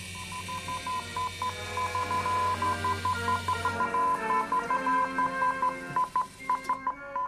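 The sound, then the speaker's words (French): A steady stream of high-pitched Morse code beeps from an electric telegraph, a reply to a sent message, short and long tones keying on and off in an irregular rhythm, fairly loud, over a faint low hum that drops away midway. “Voilà la réponse du message que j'ai envoyé, le télégraphe électrique inventé en 1832 par l'américain Samuel Morse”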